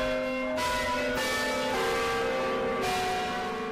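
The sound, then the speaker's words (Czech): Heavy church bells of Svatá Hora ring loudly in the bell tower, several strikes overlapping into a dense, sustained metallic roar with long humming overtones, no voices present. The eight bells date from 1934 and 1935, cast by Rudolf Perner's bell foundry in České Budějovice. “Mohutný zvuk zvonu nás hodně rychle ze zvonice vyhnal.”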